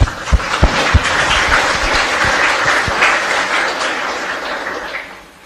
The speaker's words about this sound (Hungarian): Tapsolj!